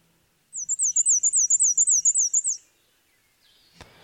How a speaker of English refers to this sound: All right, this next one is going to be tricky. Okay. This is a migratory warbler. Tell me which species you think it is.